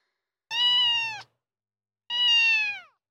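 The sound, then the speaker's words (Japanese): Two drawn-out, high kitten meows with a short pause between them, clear and close, each about three-quarters of a second long, with silence around them and no talking. “恐る恐る振り向くと、そこにはあの子猫がいた。”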